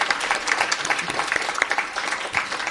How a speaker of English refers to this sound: Another quick round of applause for Sam.